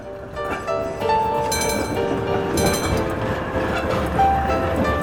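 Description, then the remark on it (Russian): An old burgundy-coloured tram rumbles steadily along its rails, with loud clattering bursts and thin metallic squeals from the wheels rising over the continuous rolling noise. “И ты садишься в старый трамвай бордового цвета.”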